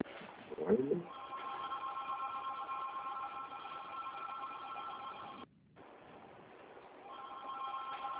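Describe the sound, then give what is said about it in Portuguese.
A telephone rings with a steady, buzzy electronic trill of layered high tones, pauses briefly, then rings again. A short low murmur comes just before the ringing starts. “Tá tocando um telefone aqui, mas não sei.”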